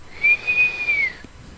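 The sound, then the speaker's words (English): A person whistles one sustained, steady high note, drawn in on an inhaled breath, lasting about a second and dipping slightly in pitch before fading. The whistle is clear, with no talking. “And when I whistle, I suck in. I don't blow out.”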